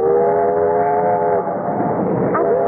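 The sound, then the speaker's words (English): A coal-burning steam train rumbles along, its whistle blowing a steady multi-toned blast for over a second before fading into the continuous clatter and roar of the moving engine. “And what an adventure that was, to ride swaying and bouncing behind that iron monster with its hiss of steam and its great proud plume of black coal smoke curling away in the wind down the length of the train.”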